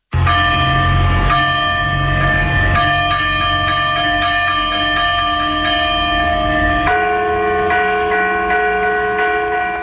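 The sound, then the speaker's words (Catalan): The church bells of the ten bell towers of Banyoles, Catalonia, peal together at the same hour in the evening for the eve of the Festa Major of Sant Martirià; their loud overlapping strikes layer into a dense, continuous ringing with strong sustained tones, and no voices are heard. “D'aquesta manera, els 10 campanars de Banyoles van fer repicar les campanes a la mateixa hora, ahir al vespre, per primera vegada.”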